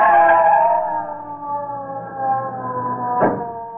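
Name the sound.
ambulance siren approaching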